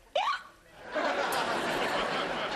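hiccup

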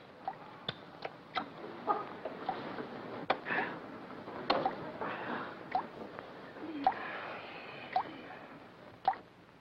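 shower dripping water

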